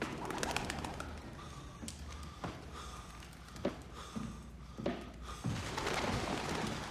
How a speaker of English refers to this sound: Pigeons did what we wanted them to do, which was scripted.